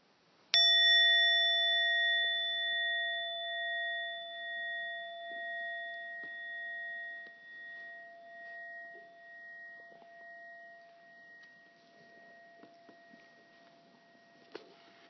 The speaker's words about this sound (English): At the end of our time of silence, I will ring the bell very gently and bring you back to the present moment.